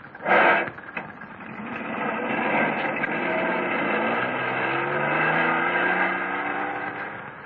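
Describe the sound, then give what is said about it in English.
A sharp burst opens, then a car engine revs into a steady, loud roar, its pitch climbing as the vehicle accelerates and drives off. No voices are heard. “Okay, Grandpa, you drive this one. I'll drive his.”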